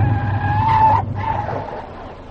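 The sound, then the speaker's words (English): A car skids to a halt with a high, sustained tire squeal over a low engine rumble, cutting off abruptly after about a second, followed by a fainter settling noise. “Stop the car.”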